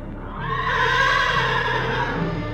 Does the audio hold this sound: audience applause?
no